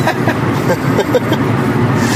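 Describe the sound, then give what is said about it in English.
A steady, continuous rumble of road noise from a car moving at highway speed, driving from Minneapolis, Minnesota to Madison, Wisconsin, an even low roar with no breaks and a faint murmur of voices underneath. “And we're driving from Minneapolis, Minnesota to Madison, Wisconsin.”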